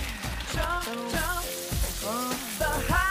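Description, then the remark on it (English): Water from a boiling pot gushes and splashes steadily into a sink as a teenage boy strains pasta, a continuous hissing pour lasting a few seconds, with tonal, music-like sounds rising and falling over it. “In another house, a teenaged boy takes a boiling pot from the stove, then strains pasta in the sink.”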